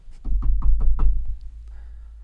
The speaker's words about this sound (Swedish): Knacka på.